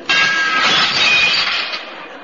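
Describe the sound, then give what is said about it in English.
A glass doorway of a sleazy nightclub called The Bucket of Mud shatters with a sudden loud crash as someone goes through it, followed by a bright spray of breaking and tinkling shards that slowly thins out over about two seconds. No voices. “I pulled my hat down over my eyes and went through the sleazy glass doorway.”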